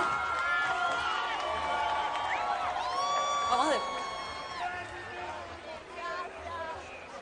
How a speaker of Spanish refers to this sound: Yo quiero que Venezuela reciba con un fuerte aplauso a este artista que ha dejado el nombre de nuestro país en alto.